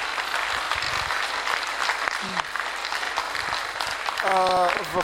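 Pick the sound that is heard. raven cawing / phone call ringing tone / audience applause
audience applause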